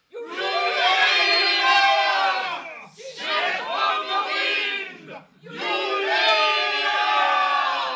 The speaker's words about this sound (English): They took off like a sheet of lightning, blades and slings whirling, roaring aloud the war cry to let Perigord know help was on its way.